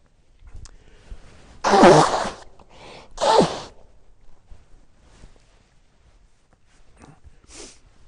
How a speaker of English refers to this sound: Excuse me, I need time out to cough on this one, and I better do it now.